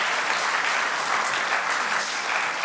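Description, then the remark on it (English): An audience applauds its worship teams steadily, many hands clapping in a dense, continuous wash of sound with no pauses and no voices standing out. “Have you applauded them lately?”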